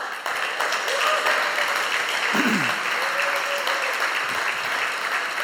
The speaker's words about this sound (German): Und jetzt kommt ein großer Applaus, der euch gilt.